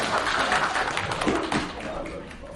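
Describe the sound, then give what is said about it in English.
A church audience applauds their translator during a sermon, a dense, steady wash of many hands clapping at a fairly loud level, with some voices mixed in underneath. The clapping tapers off slightly toward the end. “Let's clap for our translator.”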